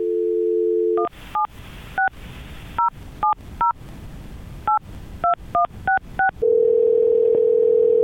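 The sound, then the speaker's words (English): A steady dial tone gives way to about a dozen touch-tone beeps dialed in uneven bursts, then a long, level ringback tone, as the radio station Magic 92.5 phones a woman. Loud, with no voices. “Okay, so what we're going to do is get her on the phone, and then we're going to have you read your nomination, okay?”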